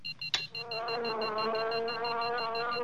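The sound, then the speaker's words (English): A sharp click, then a mosquito's steady, droning buzz that holds at one pitch for a couple of seconds, fairly loud, with no talking. “99, the mosquito!”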